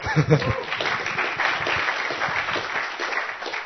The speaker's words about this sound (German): Ich finde, das hat doch einen kleinen Applaus verdient, oder?